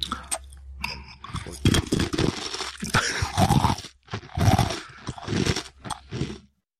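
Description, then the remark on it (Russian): Loud, close-up crunching of a dry Russian sushka bread ring being bitten and chewed by a woman right against the microphone, in irregular crackly bursts for several seconds with no talking. “из пафосной ноты соскакивает к привычному контенту и с удовольствием хрустит сушкой прямо в микрофон.”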